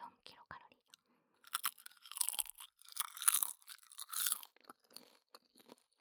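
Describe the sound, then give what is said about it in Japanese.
Crisp crunching of dried nori seaweed being chewed, a dense run of loud brittle crackles after a few faint earlier bites, then tapering off into softer chewing. “何より私さっきからバリバリ食べてるけど、これでなんと”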